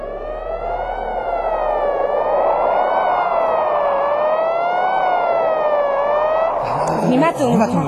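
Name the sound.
ambulance siren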